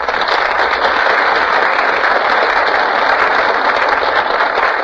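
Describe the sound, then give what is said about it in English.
A studio audience claps steadily, a dense, loud wash of many hands that holds at full strength for the whole five seconds with no voices on top, as Pat O'Brien, Carol Landis and Donald Crisp enter from stage left. “Ladies and gentlemen, Pat O'Brien, Carol Landis, and Donald Crisp are just entering from stage left, and the audience bursts into applause.”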